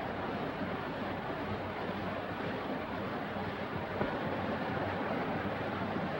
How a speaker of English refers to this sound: He approaches a river and dismounts.